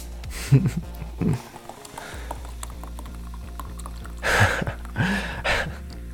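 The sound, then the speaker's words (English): Cold liquid is poured onto a person's stomach in a few short, splashing bursts over a low steady hum, with the person's soft gasps and breathy sounds between them. “Pour another.”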